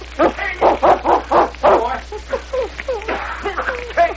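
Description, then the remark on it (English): A Malamute barks in a rapid run of six or seven loud barks, then breaks into a series of higher, whining yips and yelps. “The Malamute jumped through the window, the same window through which he'd escaped.”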